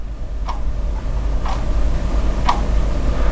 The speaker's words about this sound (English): Not so much the mirror in my bathroom that I'm worried about, as much as the clock in my writing room. For some reason, it's ticking louder.